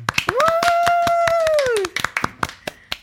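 Lively applause: a stream of sharp, irregular hand claps lasting about three seconds, joined early on by a long, high, sustained whooping cheer that rises, holds and then slides down.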